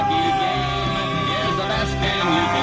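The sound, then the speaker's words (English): Loud, overlapping truck horns blare in long sustained tones at the Trucker Freedom Convoy while a crowd cheers and yells underneath, with music mixed into the steady wall of noise. “But you can just hear there's honking, there's people cheering”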